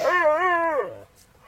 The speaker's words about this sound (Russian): Ой, Черныш пришел! Черныш, Черныш, ко мне! Хорошая собачка, хорошая!